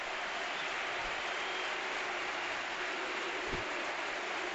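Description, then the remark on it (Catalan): A stadium crowd at a Villarreal versus Betis football match gives a sustained ovation as player Juma is substituted, a dense, steady wash of applause and cheering that holds at an even level throughout, with no voices standing out. “Li diu que se dona pressa d'en Juma, ovació”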